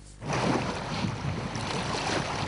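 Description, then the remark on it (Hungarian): Waves on Lake Balaton wash steadily against shore stones, a continuous splashing and sloshing rush with some wind noise, beginning abruptly after a brief quiet moment. No voices are heard. “Itt ősszel még homokpadokat lehetett látni, most pedig a hullámok mossák a parti köveket.”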